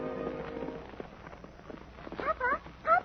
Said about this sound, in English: Now toward the ranch house comes another horse. This one wears a saddle, but no rider. He runs free, his bridle whipping about his head.